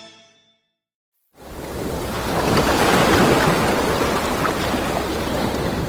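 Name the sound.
ocean waves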